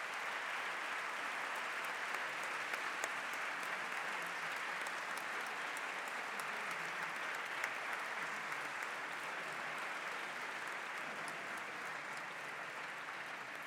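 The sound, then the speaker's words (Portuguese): Sustained applause from a gallery audience in parliament: many hands clapping in a dense, even wash that holds steady at moderate loudness for about fourteen seconds, with no voices. “Aproveito a oportunidade para lhes dizer que, à luz das regras, estão proibidos de aplaudir ou de se manifestar de qualquer forma.”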